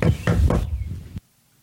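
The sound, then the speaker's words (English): Three firm knocks on a door in an even rhythm, fairly loud, with a low hollow thud after each, then quiet; someone knocking on a door to share the gospel. “So, you knock at the door and you share the gospel with them.”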